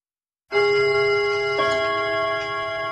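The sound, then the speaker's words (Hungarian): A Dankó Rádió time signal marking 14:00 starts abruptly and rings as a steady, bright tone with a ticking clock faintly beneath it, holding at even loudness for a few seconds with no one speaking. “A pontos idő 14 óra.”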